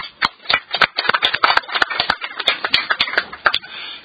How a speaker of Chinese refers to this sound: 今天立法会区议会第一括弧功能界别叶国轩议员来到屯门区议会出席今次的会议，我代表区议会欢迎叶议员，请大家鼓掌，麻烦。